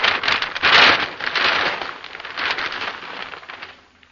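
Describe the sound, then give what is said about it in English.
A thunder drum, struck continuously, rumbles steadily beneath loud, dense crackling from heavy wrapping paper being crushed into a ball in front of the microphone, surging in the first second and then gradually fading away. “A thunder drum being struck continuously. And some heavy wrapping paper being crushed into a ball in front of the microphone.”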